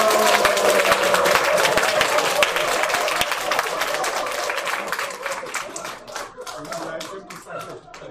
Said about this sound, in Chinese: 因为副组长说你来一定要热烈鼓掌，然后我刚刚有提案组长来，就组长还可以宣布。